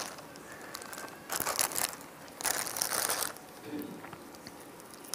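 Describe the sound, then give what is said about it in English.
A knife slices into an avocado in two rough, crunchy bursts of scraping and crackling, each lasting under a second, against a quiet background with no talking. “So I was going to cut it, just to make sure.”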